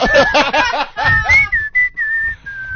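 Someone whistles a catchy Afrikaans pop melody, the thin pure tone sliding between held notes, with bursts of laughter and voices mixed in during the first half.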